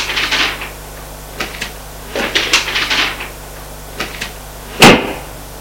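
Paper rustles in several short bursts as a woman puts a paper back into a writing desk, followed by a single solid wooden knock as the desk drawer or lid is shut near the end; no voices.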